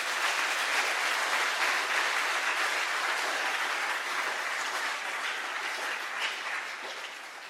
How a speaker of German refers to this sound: Müssen wir einfach nochmal klatschen.